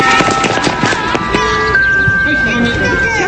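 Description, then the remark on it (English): A steady, high-pitched missile alert siren rises and holds over a busy, noisy school playground with children's voices and scattered clattering, during Japan's first missile evacuation drill. “At the sound of the siren, children hit the deck and wait for further instructions.”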